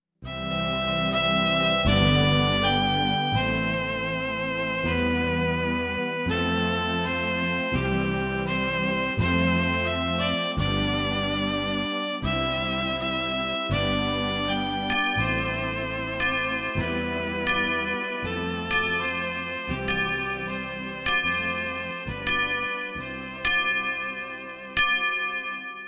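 Church bells ring loud in a steady peal, one struck tone after another, each ringing out and overlapping the next for the whole stretch, with no voices.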